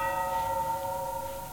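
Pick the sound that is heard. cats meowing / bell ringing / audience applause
bell ringing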